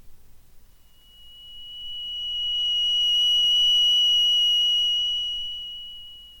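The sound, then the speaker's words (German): A steady, high electronic tone, made by gradually subtracting a tone mixture from a sine tone, swells slowly in loudness while fainter upper overtones blend in and fade, smoothly shifting from a pure beep-like pitch toward a richer, layered tone, with no voices. “lasse die Subtraktion aber graduell eintreten, erhalte ich einen weichen und dennoch ganz präzisen Übergang zwischen zwei Klängen, die trotz ihrer Verschiedenheit gleichen Ursprungs sind.”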